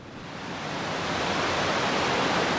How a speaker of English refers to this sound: …, the man in charge of the Army Corps' treatment facility, shows me where water from the Potomac rushes into the plant.